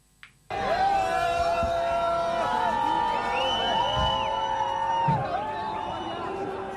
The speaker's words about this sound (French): Ça c'est une petite hola pour l'arrivée de l'hélicoptère. Un mouvement de foule là.